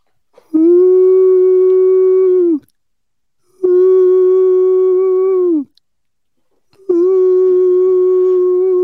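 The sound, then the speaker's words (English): A person imitates owl hoots with three long, steady, mid-pitched calls, each held about two seconds and dipping slightly at the end, separated by short silences. No other sounds. “So that's a long way of saying I haven't quite perfected my owl noises yet.”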